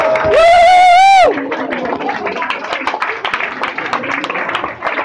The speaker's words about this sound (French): Applaudissez-la.